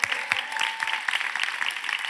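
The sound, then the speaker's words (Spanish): An audience applauds the Lord, many hands clapping in a dense, steady patter that holds at an even, moderate level for the full couple of seconds, with no voices rising above it. “Vamos, denle un fuerte aplauso al Señor por eso.”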